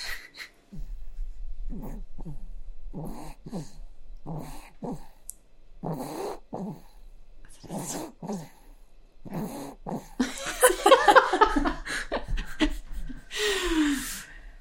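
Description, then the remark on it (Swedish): Repeated raspy snores and snorting breaths come in short, uneven bursts, growing louder and wheezier toward the end, with a brief high whine-like breath just before it stops. “Vi måste micka upp den här snarkningen.”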